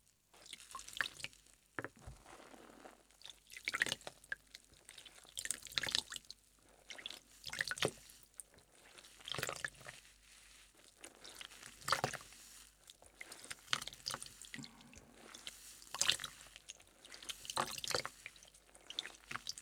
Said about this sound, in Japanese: では、洗い流していきます。当店ではシャワーは使いません。すべて手で、ゆっくりと丁寧に洗い流します。